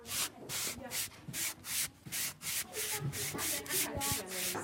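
Sandpaper rubbed back and forth along the edges of cut wooden boards, a steady, brisk rhythm of about a dozen hissing, scratchy strokes with no talking.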